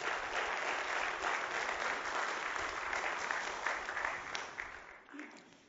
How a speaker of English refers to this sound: I'm very happy that our church has partnered with 3DTC. So let's give them a round of applause if we could.